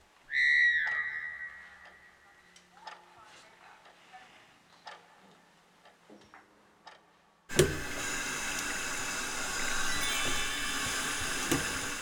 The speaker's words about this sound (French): Ce que j'aime bien dans les toilettes, c'est appuyer sur le bouton du robinet. Parce que il y a l'eau qui coule.